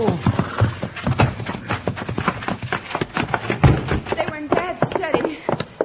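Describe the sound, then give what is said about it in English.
Hooves of a horse named Bucky clip-clop in a steady rhythm of sharp knocks as it is reined to a stop, with a voice briefly heard in the background. “Whoa, Bucky. Whoa, whoa.”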